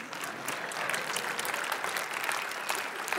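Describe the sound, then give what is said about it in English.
Steady applause from a crowd, a dense rush of many hands clapping at once that holds a fairly even loudness throughout, with no voices standing out above it. “That's worthy of more than a golf clap, by the way.”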